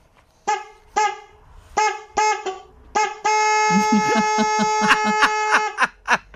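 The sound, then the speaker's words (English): A car horn, sounded by a caller from Dundalk, gives several short, loud honks in an uneven rhythm, then one long sustained blast, with a few more quick toots at the end; a voice briefly murmurs underneath. “You've been honking your horns all week.”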